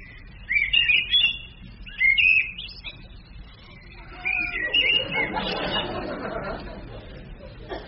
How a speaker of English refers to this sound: Blackbird? Yes, 2 marks.